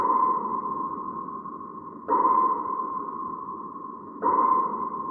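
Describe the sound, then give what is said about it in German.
Three sonar pings from an echo sounder scanning the seafloor, evenly spaced about two seconds apart, each a sharp tonal onset that rings and fades slowly into the next, with no voices. “Mit Echolotgeräten tasten sie weltweit den Meeresgrund ab.”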